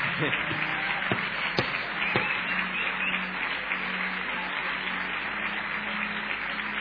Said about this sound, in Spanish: Vamos a ver si le podemos aplaudir.